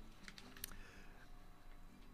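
A few soft computer keyboard keys click in quick succession near the start, faint, as someone looks things up on the internet, followed by a low, quiet background hum with no talking.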